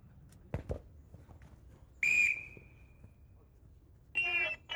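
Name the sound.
referee's whistle blown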